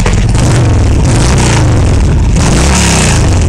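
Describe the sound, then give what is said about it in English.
A motorcycle with a loud aftermarket exhaust revs hard, its deep throaty roar rising and falling continuously and filling the whole stretch, with no voices. “Aftermarket loud pipes save lives.”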